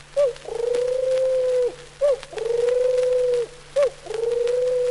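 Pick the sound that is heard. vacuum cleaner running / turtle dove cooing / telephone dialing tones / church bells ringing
turtle dove cooing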